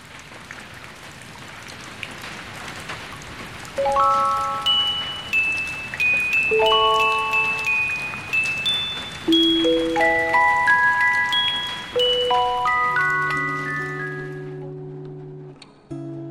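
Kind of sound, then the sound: nature, rain falling and dripping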